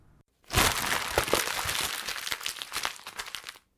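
Exam papers being crumpled, a dense run of crackling and crinkling rustles lasting about three seconds with no voices, ending abruptly.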